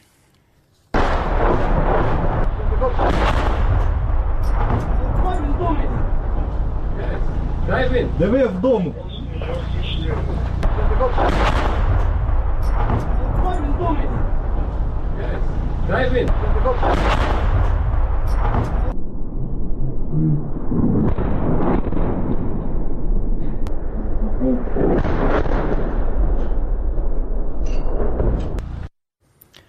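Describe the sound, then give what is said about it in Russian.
A Grad multiple rocket launcher firing, recorded in Chasiv Yar: a loud, continuous roaring rumble punctuated by a series of sharp, crackling bursts every few seconds, lasting nearly half a minute. “Судя по звукам, работал град.”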